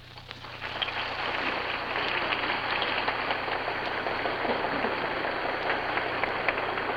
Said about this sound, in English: The guests representing 44 states of the Union stand and applaud, and so the President of the United States, Franklin Delano Roosevelt, concludes his address before the banquet of the Retailers' National Forum of the American Retail Federation